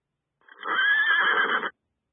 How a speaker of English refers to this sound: Did you get that one? A horse, of course.